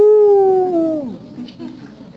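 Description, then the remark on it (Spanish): A person imitates a coyote howl: one loud, sustained wavering cry lasting about a second, sliding downward as it fades, followed by quiet background noise. “Como un coyote, ¿no?”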